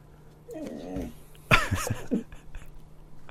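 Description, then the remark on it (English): A female dog, who starts making noise when the petting stops, whines in a wavering, high-pitched tone, then lets out a sharper, louder vocal burst followed by a short grumbling noise, with quiet between. “Oh my god, that dog.”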